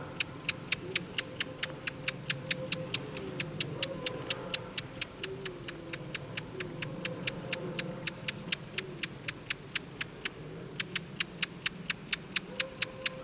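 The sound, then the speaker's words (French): A Eurasian blackcap gives a long series of hard, dry tacking alarm calls, evenly and rapidly repeated, with faint lower warbling sounds in the background. “Alarme de fauvette à tête noire.”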